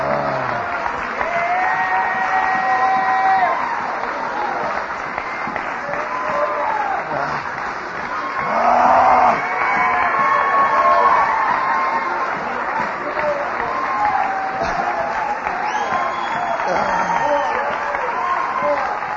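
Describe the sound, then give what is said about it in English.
A standing audience gives the Lord a clap offering, clapping steadily with scattered cheers and whoops for about twenty seconds, a loud, dense wash of applause with voices calling out over it and a brief swell midway. “Let's just stand and give the Lord a clap offering.”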